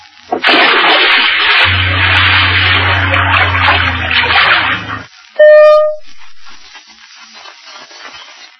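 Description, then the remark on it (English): Loud, rushing water splashes steadily for about five seconds with a low engine-like rumble beneath as a vehicle reaches a large, treacherous river, then a brief bright tonal squeal and a fainter trickle of water. “Later, the vehicle reaches the banks of a large, treacherous river.”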